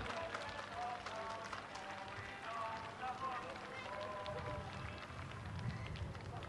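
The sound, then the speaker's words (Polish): A large crowd applauds steadily and warmly to welcome the third pilgrim group arriving at Jasna Góra, the dense clapping filling the whole stretch without a break, with indistinct voices and some low rumble mixed into the outdoor din. “Witamy serdecznie grupę trzecią na Jasnej Górze. Gorące oklaski.”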